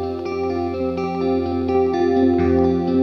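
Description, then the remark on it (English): An electric guitar played through a chorus pedal switched to its lo-fi setting, holding a sustained, warbling chord with a murky, dulled tone and steady wavering shimmer, playing alone at a steady loudness. “and then I just swapped it to the lo-fi setting so you can hear the difference.”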